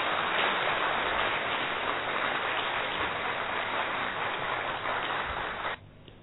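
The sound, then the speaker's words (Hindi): A crowd welcomes a sister speaker as a session on the Gita resumes, applauding in a steady, dense wash of clapping that holds for several seconds. It cuts off abruptly near the end. No one speaks over it. “अभी और कंटिन्यू करें तो जोरदार तालियों से बहन जी का स्वागत तो करिए।”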